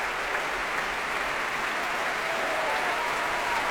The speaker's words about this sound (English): And here they come again. Nezet-Séguin applauding this wonderful singer.